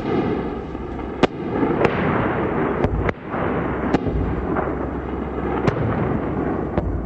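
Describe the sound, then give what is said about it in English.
Heavy American artillery fire and explosions in Najaf during an overnight barrage: about seven sharp, loud blasts at irregular intervals over a constant dense, roaring rumble, with no voices. “The deafening explosion of heavy American guns shook Najaf for hours.”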